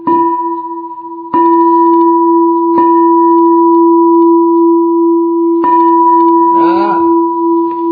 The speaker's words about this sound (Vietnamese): Thôi thì nhân đến ba tiếng chuông này là coi như chấm dứt ở đây đi.